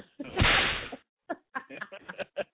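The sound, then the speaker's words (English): A loud, sharp sound effect of a big open-hand slap cracks out with a bright, ringing tail lasting nearly a second, followed by a string of shorter, quieter sounds after a brief pause. “Sound like one of them big ass open hand slaps and shit.”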